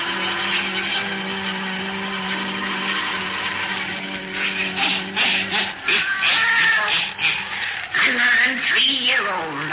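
A black cat meows with drawn-out, wavering cries in the second half, rising over a steady humming drone that fills the background throughout.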